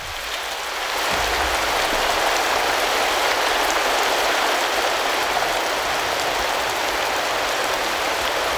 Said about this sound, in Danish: Og det lyder rigtig meget af regnvejr for mig. Ja, det er også det er regnvejr.